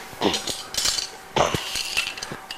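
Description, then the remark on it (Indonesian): Small toy kitchen utensils, a toy meat knife and a ladle, clink and clatter together, knocking in quick, irregular bursts of light taps with brief pauses between. “Ini pisau juga. Pisau daging. Pisau buat motong daging. Sendok sayur, iya.”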